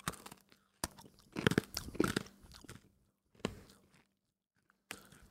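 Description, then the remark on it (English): Crunching on a hard dog treat biscuit: a few loud, crackly bites followed by bursts of brittle chewing, broken up by short silent pauses, with no talking. “A little cheers for the Let's road out. Cheers. Dog treats.”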